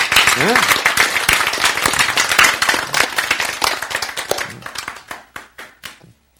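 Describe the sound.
Loud, dense audience applause with a few voices calling out early on, then thinning into scattered individual claps that fade away over the last couple of seconds. The audience claps at the speaker's prompt during a lecture.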